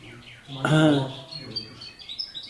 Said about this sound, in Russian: Вот даже птичка воодушевилась очень. Она тоже говорит, я тоже сделала что-то.